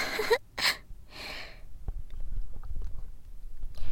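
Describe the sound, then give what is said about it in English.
Several wet gulping swallows in quick succession, with a few breathy bursts early on and soft low thumps of the throat after, and no talking. “Did you hear just how many gulps it took for me to swallow all of it?”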